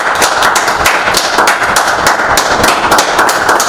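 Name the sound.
audience applause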